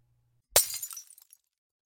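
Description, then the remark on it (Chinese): A sudden loud crash as something is smashed down hard onto the floor and breaks, followed by a brief scatter of tinkling, clattering fragments that quickly settle into silence. No one speaks. “你怎么往地上砸呀？”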